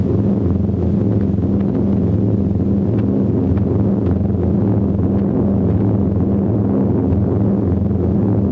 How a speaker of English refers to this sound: High above them, a squadron of bombers flies by. Fortresses. They'll soon be able to see the channel. They'll be home in time for tea.